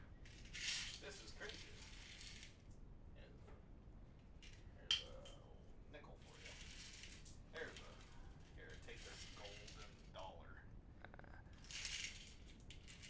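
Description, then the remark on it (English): A small metal bottle cap is flipped like a coin in place of a quarter and clinks about, with a sharp tick midway among quieter rattling and scraping bursts, fairly soft. “And the quarter isn't here, so I'm just going to take this, bottle cap right here.”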